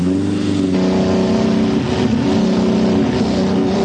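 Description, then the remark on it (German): A black car's engine drones loudly and steadily throughout, its low harmonic hum shifting slightly in pitch as it revs, with no voices over it. “Unterwegs allerdings möchte ein schwarzer Wagen 007 die Abzweigung in die Hölle zeigen.”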